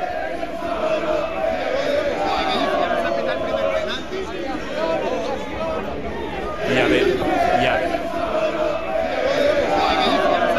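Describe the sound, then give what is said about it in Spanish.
A dense crowd of football fans chants and shouts outside the Metropolitano stadium before the match, a steady roar of many voices with sustained sung notes that swell louder near the end. “Vamos a escuchar los sonidos de lo que se oía fuera del Metropolitano antes de empezar el partido.”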